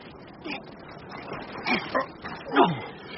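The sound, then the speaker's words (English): Low, muffled growls and a drawn-out yawning groan from a man stuck inside a sack come in a few short bursts, the loudest near the end, against a faint background hiss with no talking. “Hey, look, it's growling and yawning.”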